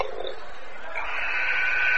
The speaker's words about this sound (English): Buzzer sounds. We're all set to initiate play after the timeout.